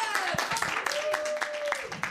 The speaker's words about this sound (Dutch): Mag ik een groot applaus voor onze laatste expert,